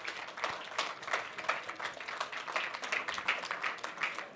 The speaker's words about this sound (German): Und damit begrüßt mit mir mit einem donnernden Applaus